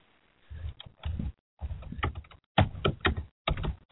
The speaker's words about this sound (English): Probably hear me tapping on my keyboard.